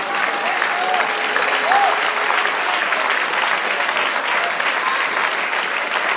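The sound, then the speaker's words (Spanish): An audience breaks into sustained applause, a dense, steady roar of clapping hands that holds at an even loudness for several seconds, with faint voices and a brief whoop mixed in. “Ahora da un aplauso al Señor.”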